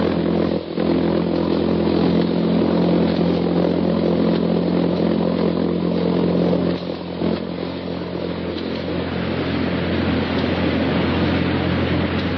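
A loud, continuous engine drone with a rough, rapid pulsing buzz from the pulsejet motor of a jet-propelled V-1 buzz bomb, Hitler's weapon of vengeance, the motor that carries tons of dynamite across the Channel; holding steady for the whole stretch with no voices.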